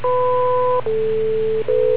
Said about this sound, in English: wait for the beep, and go ahead with your comment.